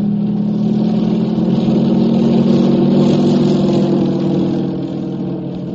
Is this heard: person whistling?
no